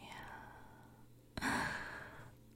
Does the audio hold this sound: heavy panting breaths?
yes